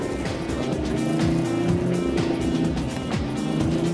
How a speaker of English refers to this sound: He's thrashing the engine now. He really needs to change gear. Oh, he's gone for the gear change.